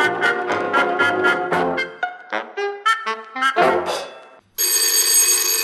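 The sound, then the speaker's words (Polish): A loud telephone bell starts ringing near the end, a harsh continuous metallic trill that cuts in right after a bouncy melodic passage of music and keeps going to the end. “No, telefon jakbyśmy mieli.”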